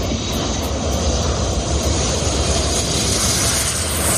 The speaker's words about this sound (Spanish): Esto que suena es un avión aterrizando al lado de decenas de personas, muchos turistas, en la playa que hay justo al lado del aeropuerto griego de Skiathos. El avión pasa, de hecho, muy cerca de la cabeza de alguno de esos turistas